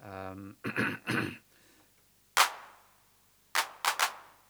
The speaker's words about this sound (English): Now here's our hand clap on the unmodified machine. The first one is at full accent. Is it? Yep, the first one's full accent and the other ones are not. Hand clap in general doesn't respond all that much to the accent.